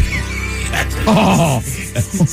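A dog whines in a drawn-out, wavering tone for about half a second, followed by a couple of short, sharp yips, with some background noise throughout.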